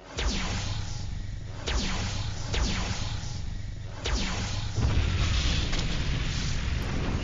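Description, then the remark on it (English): A rapid volley of sci-fi laser cannon blasts fired from a spacecraft under attack, five or six sweeping zaps in quick succession over a heavy booming rumble of explosions, loud, with no voices. “Firing laser cannons.”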